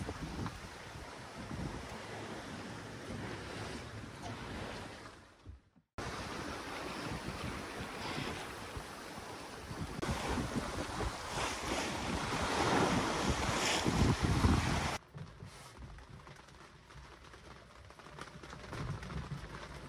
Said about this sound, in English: Motoring to make a coming weather window, the wind finally returned and we were back to plain sailing, almost in sight of mainland Tasmania.